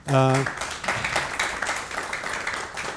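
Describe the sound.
A short burst of a voice at the start gives way to steady applause from a meeting audience after a presentation and discussion, many hands clapping in a dense, continuous patter that holds its level to the end.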